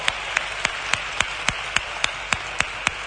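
A crowd applauds in a steady, dense wash of clapping, with sharper claps standing out at an even beat roughly three or four times per second. No one speaks.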